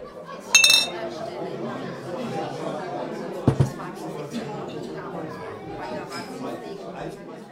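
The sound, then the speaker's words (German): A bright glass clink rings out near the start as glasses are raised in a toast, followed by a second clink a few seconds later, over a steady murmur of people chatting. “Und weißt du was, ich darf sagen, da drauf trinken wir jetzt erst einmal einen Schluck, oder? Das darf ich auch sagen. Also, Prost! Prost.”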